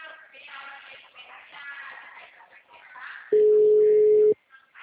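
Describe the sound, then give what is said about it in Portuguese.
People talk for a few seconds, then a single loud, steady telephone tone sounds for about a second and cuts off abruptly, like the beep of a phone line before a voicemail greeting. “Deixe a sua mensagem na caixa.”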